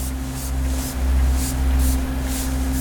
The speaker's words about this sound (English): he sprayed Blue Star, a commercial luminol variant, across the interior.